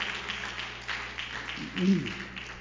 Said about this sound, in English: Give the Lord a good hand clap so I can get me a drink.